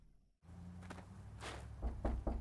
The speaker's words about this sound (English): Knock louder. Maybe she's not home. She's gonna be like 90 years old. Give her a minute to get to the door.